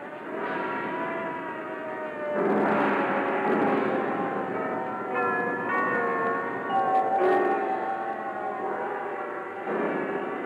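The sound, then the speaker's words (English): Sirens, as played by composer Edgar Varese at the piece's premiere, wail in a dense percussion ensemble, their sustained pitched tones layered over clattering instruments. The sound stays loud and continuous, swelling after a couple of seconds and again near the end, with no voices. “The ensemble put together for its premiere turned out to be a star-studded cast, including Carlos Salcedo, Wallingford Rieger, Henry Cowell, the young William Schumann, and the composer himself, Edgar Varese, playing the sirens.”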